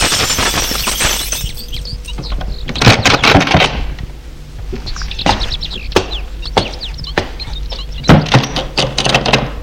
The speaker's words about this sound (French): Et il ouvre la porte d'entrée.